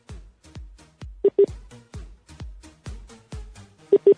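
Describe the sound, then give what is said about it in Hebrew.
Telephone line tones, with two quick pairs of short beeps over a steady, rhythmic pulsing pattern, as a caller's line is switched to call waiting. Moderately loud and clear, with no one talking. “היא עברה לממתינה, מה, לפרגן את זה לממתינה כאילו?”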